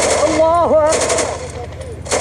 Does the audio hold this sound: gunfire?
yes